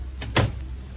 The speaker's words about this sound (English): Shut the door, Jack.